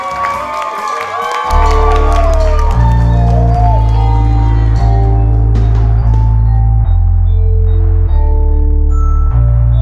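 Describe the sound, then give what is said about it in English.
A crowd cheers and whoops for a moment as three musicians from North Atlanta, Georgia are brought out, before heavy, booming bass music kicks in. Applause and shouts carry on faintly beneath the loud beat. “Please, start clapping your hands now.”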